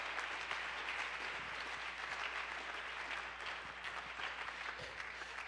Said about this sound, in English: Somebody ought to clap their hands right now.